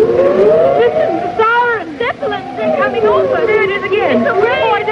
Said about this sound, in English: Listen, the siren, Zeppelin, they're coming over. There it is again. It's a raid. Oh, I don't believe it can be.